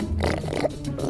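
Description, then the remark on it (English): A person vocally imitates a warthog with a low, rough, guttural growl that rumbles steadily for about a second, loud and unbroken, with gravelly grunting texture and no other talk. “That's a warthog.”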